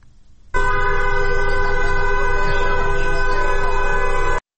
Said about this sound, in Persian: در میدان تجریش تهران هم گروه‌هایی از دخترانی که حجاب از سر برداشتند با همراهی پسران دست به راهپیمایی در منطقه زدند و خودروهای عبوری نیز با بوق‌های ممتد از اقدام آنها حمایت می‌کنند.